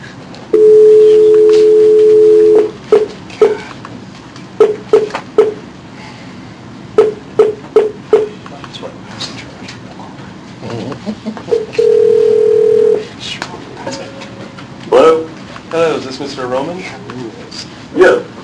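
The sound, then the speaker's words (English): A steady telephone tone sounds for about two seconds, followed by a quick series of short dialing beeps, a second brief steady tone, and more clipped beeps, all clear on a phone line, as a caller is put on hold while another party is dialed to join the call. “I'm going to put you on hold in order to call him and connect us, okay?”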